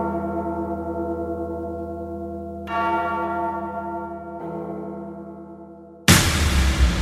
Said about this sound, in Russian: Проснитесь, добрые колокола. Кто вырвал языки вам из гортаней? Кровь просит слова, а не бормотание. Довольно вам молчать, колокола.